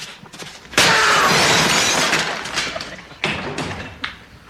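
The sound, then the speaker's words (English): A store window is smashed by a thrown chair with a loud crash, followed by a long spray of shattering glass and scattered debris, then two more sharp impacts as shards keep falling. “He smashes his own window, throws the chair through.”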